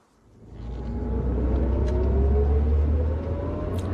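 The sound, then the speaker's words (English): A car engine swells in from quiet and drives on with a steady, low rumble, its pitch slowly climbing as it pulls along; no one speaks. “My car's just up here.”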